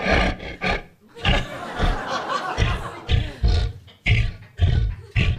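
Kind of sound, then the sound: animal, cat yowling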